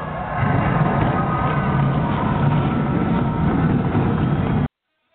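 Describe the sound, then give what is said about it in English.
A dense, loud roar of race car engines firing up and running together after the command "drivers, start your engines" given on behalf of General Tire, a heavy low rumble that holds steady for several seconds before cutting off abruptly. “On behalf of General Tire, where anywhere is possible, drivers, start your engines!”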